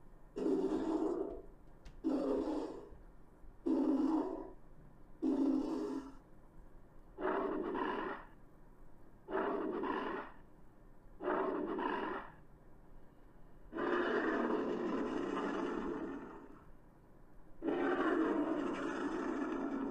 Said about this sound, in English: In Ark Survival Evolved, the Meg was voiced by heavily altered tiger vocalizations.